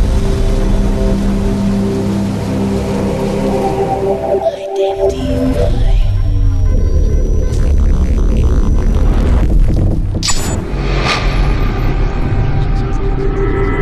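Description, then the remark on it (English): A loud, sustained drone sound effect: layered low humming tones that throb steadily, cut out briefly, then swell back with a rougher rumbling texture and a few bright swishes near the end. “Drones.”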